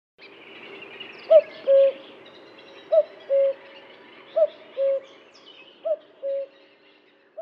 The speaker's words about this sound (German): ein echter Kuckuck singt eine kleine Terz, keine große wie bei Beethoven